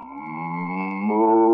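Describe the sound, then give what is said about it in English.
A cow lets out one long, steady moo, a rich harmonic low tone that swells and steps up slightly in pitch toward the end, heard alone with no talking. “Wise Guy, none of the cattle come back. How do you know any of them heard you? Hey, I think there's one out there now.”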